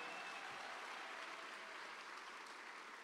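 An audience applauds steadily for a woman who has been preaching that week, a dense wash of many hands clapping at once that stays loud and even for about three seconds with no voices over it.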